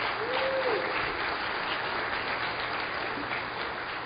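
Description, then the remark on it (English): A crowd claps in a sustained round of applause, a dense, even wash of many hands that holds steady and loud throughout, tapering only slightly at the end. “Everyone give them a huge round of applause.”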